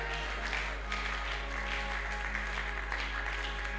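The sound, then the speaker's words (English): A church audience claps for the word of God in a sustained, dense wash of applause that holds steady for several seconds, with no clear individual claps standing out and no one speaking over it. “Oh, I want the whole church to clap. Clap for the word of God.”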